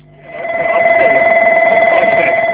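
A loud, continuous electronic fire alarm sounds in the cockpit of a Crossair Embraer 145 flight simulator, for a simulated fire in engine number 1. It has two steady tonal bands with a rapid pulsing warble, rising in at the start and then holding constant with no one speaking.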